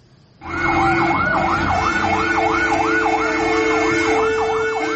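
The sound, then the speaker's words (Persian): A loud fire engine siren wails continuously, its pitch sweeping rapidly up and down in a steady yelp pattern over a low rumbling engine, with no voices, as firefighters arrive at a fire at the Zaytuna teahouse in Bokhtar, Khatlon province, southern Tajikistan. “سوختار در قهوه‌خانه زیتونه در شهر باختر، آتش نشان ها به جای حادثه رسیدند و آن را خاموش کردند.”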